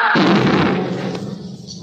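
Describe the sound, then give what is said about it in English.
A car bomb explodes as the car's starter button is pressed: one sudden, loud blast with a deep low rumble and a harsh crackling roar that gradually fades over the next couple of seconds. No voices. “As soon as Succomelli's hand went for the starter button, I hit the ground, started to roll. But even so, I caught part of the blast.”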